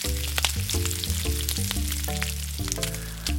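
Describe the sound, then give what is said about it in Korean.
Crabs deep-frying in hot oil at a street food stall in Myeongdong, Seoul, a steady crackling sizzle that runs the whole time over a low, shifting tonal drone in the background. No one speaks. “지글지글 끓는 기름, 그 속에서 튀겨지는 건 꽃게입니다.”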